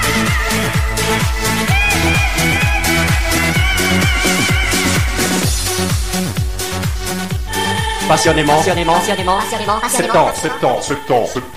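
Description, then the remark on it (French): An upbeat summer pop song with a steady, driving kick-drum beat and bright layered instruments, loud; a vocal melody comes in over the music toward the end. “la sortie de sa chanson « … », une bien jolie mélodie qui donne envie de danser sur la plage”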